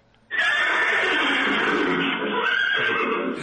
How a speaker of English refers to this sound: Well, I told you it was a laser horse whip. Uh-huh. It makes a fun horsey sound, too.